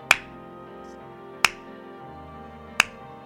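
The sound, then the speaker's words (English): Three sharp, crisp hand claps, a 'two-strike clap' done while a baseball batter, Paul Konerko, has two strikes, land at a slow, even pace about a second and a half apart, each one standing out clearly over a low, steady background hum. “Hey, let's try the two-strike clap again.”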